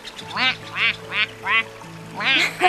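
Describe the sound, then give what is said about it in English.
A person imitates a duck with five nasal, raspy quacks in a steady rhythm, the last one slightly doubled, voiced clearly. “you're really good at imitating the sound of ducks.”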